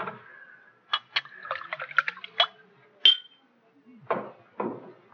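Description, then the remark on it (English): Wet gulping of cold wine: a quick run of small liquid swallows and clicks, then a pause and two heavier, throaty gulps, with no one talking. “Oh, I'd just like to gulp a little while it's still cold.”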